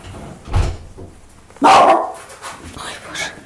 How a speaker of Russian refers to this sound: Ты на кого там? На кого ты так лаешь? Кто там? Там нет никого. Чего ты лаешь-то? Нет никого. Там вороны. А, на вороны.